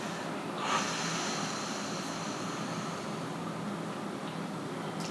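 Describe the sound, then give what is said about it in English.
A slow, deep cleansing breath is drawn in and then let out completely in a long, steady, airy exhale, quiet, with no talking. “Deep exhales are deep cleansing breaths. breathing in and exhaling completely.”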